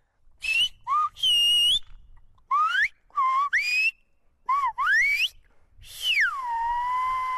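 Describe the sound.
A sequence of loud, piercing whistled phrases in Silbo Gomero, the whistled language, with sharp rising and falling glides, broken by short pauses, ending in a long descending whistle that holds steady, whistling a warning that the police are coming.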